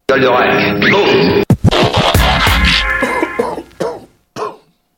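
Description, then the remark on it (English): A person putting on a strained, high-pitched voice breaks into harsh, raspy throat clearing and several rough coughs, loud, tapering off into a final short cough. “Yeah, I gotta be careful on going with these high voices because then I'm trying to avoid coughing, which I usually do.”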